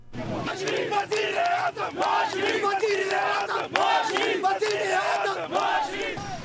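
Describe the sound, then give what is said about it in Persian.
A street crowd of supporters of Nawaz Sharif chants loudly and continuously in Islamabad and Lahore, Pakistan, on a Saturday, protesting his disqualification by the Supreme Court; many voices shout together in rising and falling bursts with brief rhythmic breaks, dense and energetic throughout. “صدها حامی نواز شریف صدر اعظم مصفی پاکستان روز شنبه در اسلام آباد و لاهور به جاده ها برآمده و علیه سلب صلاحیت شدن وی توسط محکمه عالی پاکستان اعتراض کردند.”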